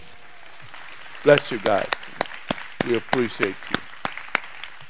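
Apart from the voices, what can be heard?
audience clapping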